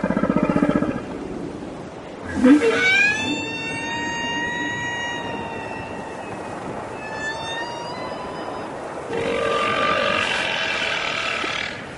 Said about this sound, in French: Vous avez un hydrophone. C'est un micro qui permet d'écouter, qu'on plonge dans l'eau et qui permet d'écouter. Vous avez un casque sur les oreilles et vous les traquez en quelque sorte jusqu'à ce que, oui, vous entendiez le chant des baleines.